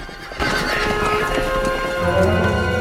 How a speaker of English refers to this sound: She jumps onto Robin's horse and they all ride off, with the guards chasing on foot.